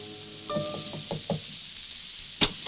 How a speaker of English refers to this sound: He hesitates for a moment. Behind that door is a young wife, now a widow. He knocks quietly and the door is opened.